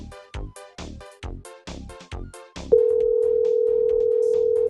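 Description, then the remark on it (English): A telephone rings in a quick string of short, decaying tonal bursts, then a steady, loud continuous tone holds for about two seconds. No voices. “Let's get the phone ringing.”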